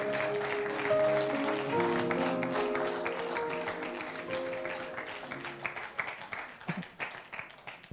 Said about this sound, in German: Ich bin total begeistert, dass du gekommen bist. Und jetzt kommt ein großer Applaus.